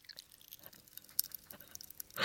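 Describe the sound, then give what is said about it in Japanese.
Faint, irregular crackling and tiny pops from popping candy being eaten, white and mint-coloured with green and red specks, a scatter of sharp little clicks with no rhythm, ending in a brief louder burst of fizzing noise. “パチパチしてるね。すごい、なんかあの線香花火くらいのとってもつつましやかな感じで、パチパチパチパチしてるのが、キラキラパチパチしてるのが、このマイクさんが全力で拾ってくださっておりますけれども”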